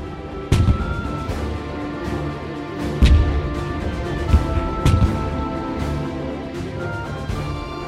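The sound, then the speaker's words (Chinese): Cannons on the deck of the ship Hispaniola, flying the pirates' black flag, fire with red flashes, booming several times at irregular intervals, heavy deep blasts with sharp cracks, over a steady low rumbling background that never lets up. “甲板上的水手忙着装填火药，大炮上方闪耀着红色的火光，并且不时发出轰隆巨响。”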